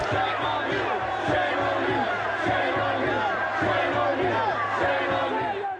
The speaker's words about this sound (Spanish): pueblo natal del ministro de Asuntos Exteriores de Gran Bretaña, Jack Straw, los manifestantes corearon: debería darle vergüenza, tan alto, que los gritos se escuchaban desde el edificio de la alcaldía de la ciudad donde Rice estaba reunida.